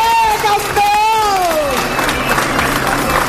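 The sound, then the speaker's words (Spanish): A crowd claps and cheers steadily for a group of pilgrims, including ALS patients, arriving at the Plaza del Obradoiro after walking the Way of St. James from O Cebreiro, with dense, continuous applause and a high shout or whoop rising and falling early on, all at a loud, even level. “Alguna lágrima, pero sobre todo vivas y aplausos recibían al grupo que quiso llegar a la plaza como la mayoría de los peregrinos cruzando el arco de Palacio.”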